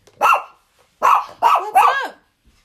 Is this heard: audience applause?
no